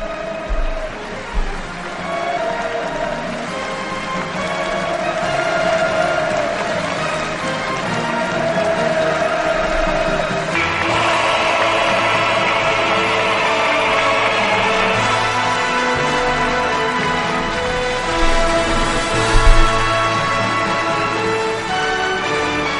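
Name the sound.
crowd cheering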